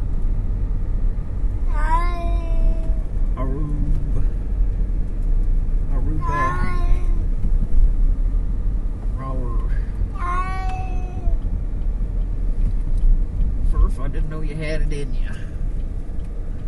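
A cat meows repeatedly, about five or six drawn-out, rising-and-falling cries spaced a few seconds apart, over a steady low engine-like rumble.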